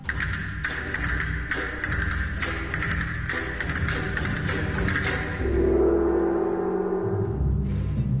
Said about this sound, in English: Castanets and gong.